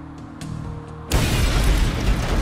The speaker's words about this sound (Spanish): La explosión fue violenta, haciendo un agujero enorme en el pecho de Scruton